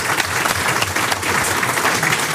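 crowd, applause

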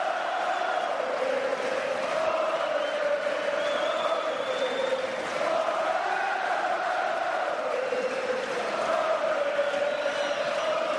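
crowd, crowd cheering

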